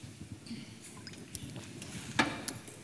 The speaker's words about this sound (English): I drink some water and finish with a couple of short ones.